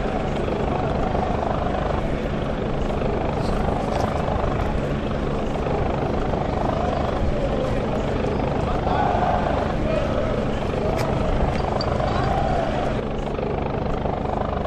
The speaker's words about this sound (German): Das ist ja nicht normal. So hört sich also ein Wasserwerfer an. Das ist auch mal interessant.